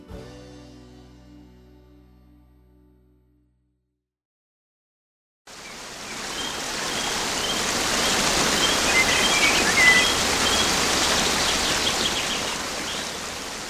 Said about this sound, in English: A waterfall to take us to the last half hour of the show. As we talk about a specific waterfall, Breakwater Falls in Florence County,